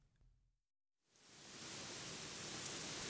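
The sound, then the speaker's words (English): After a short quiet pause, a steady hiss of rain swells up and settles into a dense, continuous downpour, with no voices present. “How do you like all this rain?”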